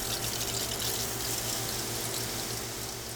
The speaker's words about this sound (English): Water laced with a nutrient mixture sprays down plant roots every 8 minutes.